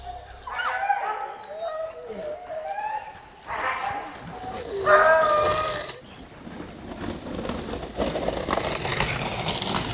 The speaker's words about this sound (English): Take the sound of a dozen Siberian Huskies amped up and ready to run, and multiply it by another 400 or 500 dogs, and you'll get some idea of what to expect